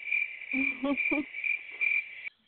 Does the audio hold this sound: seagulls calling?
no